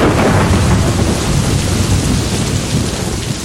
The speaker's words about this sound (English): And when the monsoon arrives, the clouds burst. It's called the burst of the monsoon.